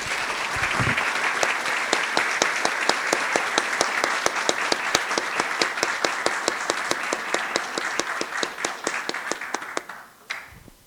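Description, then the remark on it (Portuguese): Sustained audience applause at a solemn session of the Ibitinga City Council, honouring people for their work in the city, with many hands clapping, steady and fairly loud for about ten seconds, with sharper individual claps standing out before it tapers off at the end. “Mais uma vez, eu peço uma grande salva de palmas a cada um deles.”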